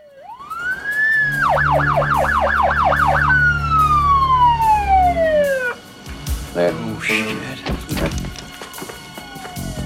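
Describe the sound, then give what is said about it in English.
A loud emergency siren rises into a wail, switches to a rapid yelping warble, then winds down over several seconds, followed by scattered thumps and indistinct voices. “sighs with relief hearing the sirens.”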